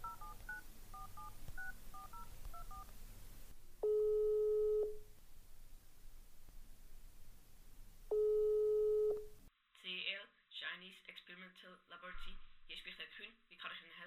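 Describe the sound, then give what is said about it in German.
A quick run of keypad dialing beeps as someone phones the head of a company, then two long steady ringing tones with a pause between, followed by a voice talking through a thin telephone line. “Kurze Zeit später haben sie im Internet nach einer Telefonnummer von CL gesucht und wenige Minuten nachher im Chef von der CL angerufen.”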